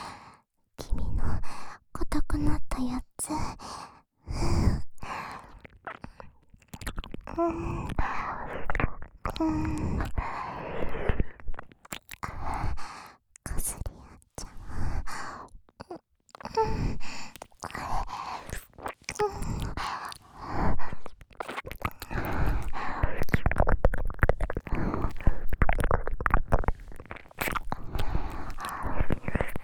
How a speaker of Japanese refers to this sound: 体を密着させながら、吐息のかかる位置で、お耳チュプチュプ舐めちゃってる。